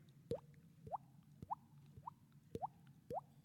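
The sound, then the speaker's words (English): Water from a shower leaking after its gasket failed drips in the middle of the night in a steady rhythm, six quick plinking drops with a rising pitch, about one every half second, over a faint low hum. “We had a gasket go on our shower. So in the middle of the night, I'm hearing.”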